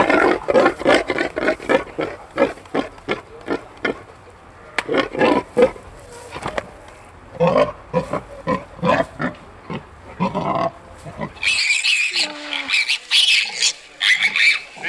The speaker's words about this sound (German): Aber da würde ich jetzt schon sagen, dass es Grundschnurren ist. Schnurgrunzen. Ja, das würde ich auch Grundschnurren. Und das Quieken ist ja wahrscheinlich ein kleineres Schwein. Und genau. Das ist vielleicht einfach gerade beleidigt oder so.